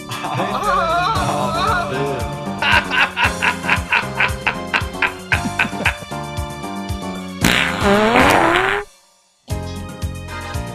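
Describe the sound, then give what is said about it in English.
A rapid medley of comedic fart sound effects, some squeaky and rising, others rhythmic and pulsing, loud, with a brief silent gap near the end before more sounds resume. “I appreciate the fart medley”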